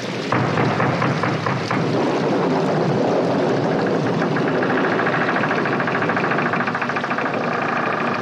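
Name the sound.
thunderstorm with thunder claps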